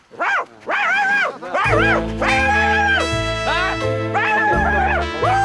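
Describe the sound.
A person imitates a dog, letting out a series of loud, yappy barks and yelps, joined partway through by a steady low droning tone underneath.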